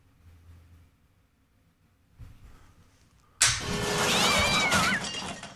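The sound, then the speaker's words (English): After a few quiet seconds, a loud cat sound effect bursts in abruptly, a wavering, yowling meow riding over harsh, noisy static that lasts about two seconds until the end. “And I think I figured out what was wrong with the cat noise.”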